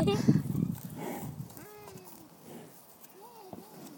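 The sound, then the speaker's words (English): Crossbred cattle with horns, including red and white cows, low a few times, drawn-out calls rising and falling over a low rumble of hooves and movement in an open field, with faint voices in the background. “Oh, here comes the red cow now.”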